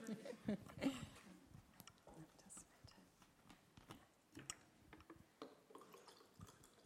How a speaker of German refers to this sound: Habe ich mal ein Glas Wasser gehört, gell?